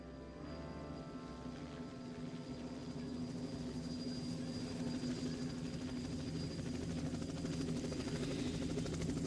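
A helicopter sound effect on a music record: a steady, low, droning rotor and engine hum that holds at an even level throughout, with no voices over it.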